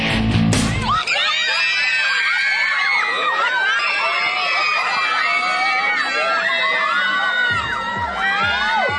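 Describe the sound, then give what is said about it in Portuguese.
A loud, dense crowd screams and cheers continuously for swimmer César Cielo at his competition debut for Minas Tênis Clube. Many high-pitched voices overlap in excited shrieks, with a sharp burst at the very start and some thumping near the end. “Estes gritos são para o novo queridinho do esporte mineiro, mais precisamente da natação do Minas Tênis Clube.”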